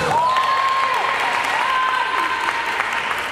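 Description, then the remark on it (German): Steady, dense applause from a few dozen women spectators in the stands at a women's football match in Oman, with a high, wavering tone like a shrill cheer or whistle rising above the clapping throughout. “Auf den Zuschauerrängen fiebern einige Dutzend Frauen mit.”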